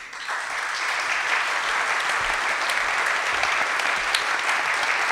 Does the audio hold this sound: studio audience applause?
yes